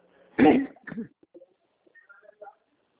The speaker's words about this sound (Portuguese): Já estou tossindo?